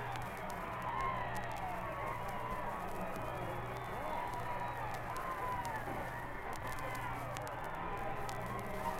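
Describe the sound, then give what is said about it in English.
A large crowd at the Green Pastures Rally cheers and roars continuously as Roosevelt waves and smiles, a dense wash of many voices at a steady level over a low background hum. “Another wave and a Roosevelt smile, and again the cheers of the crowd.”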